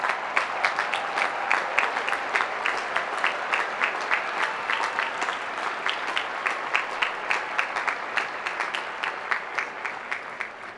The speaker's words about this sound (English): All you graduates, stand up and give your parents a round of applause and thank them. Thank them for what they've done for you.